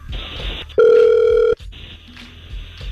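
A single loud electronic phone ring tone, a steady pitched beep lasting under a second, sounds over a quiet hiss of line noise as a call is placed from radio station Hot 96.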